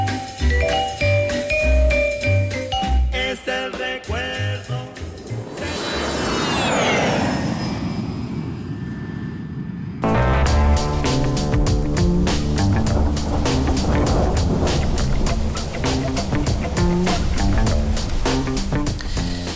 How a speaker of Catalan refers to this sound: Ja heu sentit que han posat així l'àudio de tempesta, de pluja.